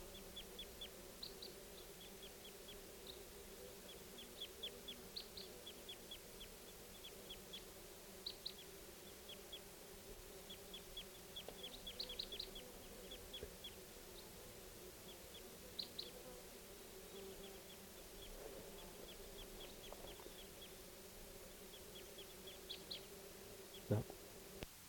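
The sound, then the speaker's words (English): Faint, short high-pitched calls from a flock of birds come in scattered clusters throughout, over a constant low droning buzz; no one speaks. “Here's the calls of the flock again.”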